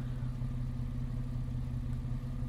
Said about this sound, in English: The engine's running. Wanted to warm up the place for you.